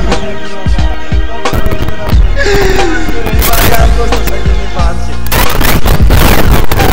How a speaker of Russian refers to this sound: Где там вообще взрывы пошли, да, атом?